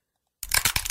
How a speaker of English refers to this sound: That was the sound of our smash for the crab earlier.